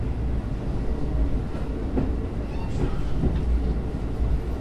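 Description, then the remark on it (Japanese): A train rumbles steadily along the rails through the Kushiro Marsh in Japan, a constant low mechanical roar with faint rhythmic clatter and occasional brief higher squeaks, heard from inside the train. “本日は釧路湿原を列車からご覧いただきましたが、中を散策してみたいと感じられたお客様もいらっしゃるのではないでしょうか。”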